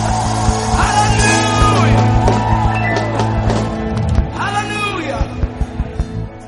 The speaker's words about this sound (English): Can you put your hands together right now and celebrate him? Everyone in the house, put your hands. The Bible says, clap your hands, all you people. I can't hear you. Clap your hands, all you people. Shout to the Lord with a shout of victory.